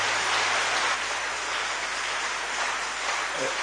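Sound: audience applause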